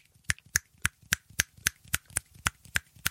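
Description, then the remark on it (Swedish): A person snaps their fingers as fast as they can: a quick, steady run of about a dozen sharp finger snaps, each a bright crisp click, repeating roughly four times a second with no talking. “Ska vi se hur snabbt jag kan knäppa med fingrarna?”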